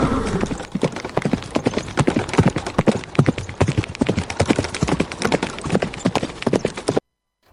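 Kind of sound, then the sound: animal, horse hooves galloping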